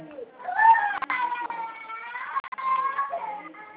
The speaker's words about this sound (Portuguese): Espera um momento, essa menina está chorando aqui perto de mim.